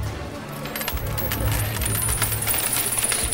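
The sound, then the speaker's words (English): A steady cascade of coins is poured into a woman's knickers in a continuous metallic jingle, bright clinking and rattling layered densely for several seconds, fairly loud, with no voices. “He pours coins into her knickers.”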